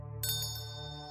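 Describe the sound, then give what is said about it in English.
Stevie Moyerson's small bell rings once with a bright, clear strike, its high tone lingering and fading gently over a steady low hum in the background. “It was a small sound, a piccolo that I shouldn't have been able to hear over the bass drum of his dog's barking.”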